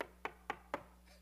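Three sharp, evenly spaced knocks on a door in quick succession, fairly close and crisp, followed by a brief quiet tail with no voices.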